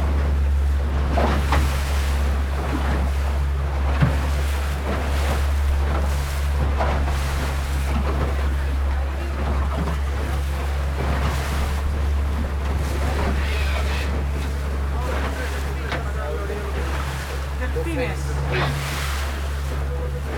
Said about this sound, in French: Ah, j'aime ça, ce son de cabotage. Ah, je suis installé à la proue de la petite embarcation.